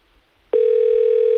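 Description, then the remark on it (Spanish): After a brief hush, a telephone ringback tone from an outgoing call starts abruptly: one loud, steady electronic hum held without a break until the end, clear, with no voices. “Dos tonos. Duetoni.”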